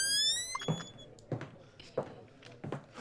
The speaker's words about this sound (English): The door creaking opens, my favorite.